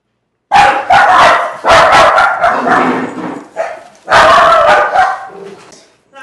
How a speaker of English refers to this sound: We had to pause it because my dogs are barking at her. Because they're idiots.